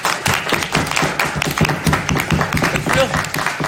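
An audience claps steadily for the full few seconds, a dense patter of many hands, fairly loud, with faint voices mixed in underneath.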